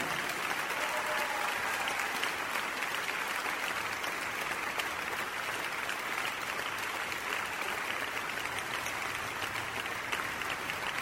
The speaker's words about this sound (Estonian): Aplauseja.